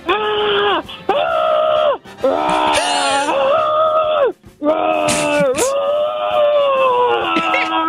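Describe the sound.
A person playing a Chicago Bears player who can only communicate in bear growls imitates excited bear growls to convey excitement about winning the Super Bowl: loud, drawn-out roaring and howling vocalizations with wavering, rising and falling pitch, broken by a few brief gasping pauses and no actual words.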